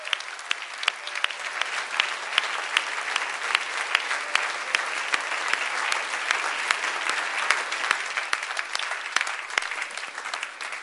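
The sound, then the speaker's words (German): A church audience claps steadily for about ten seconds for those who have just prayed to be saved, a dense, even patter of many hands with a few sharper claps standing out, no voices over it. “Lasst uns klatschen für diejenigen, die das getan haben.”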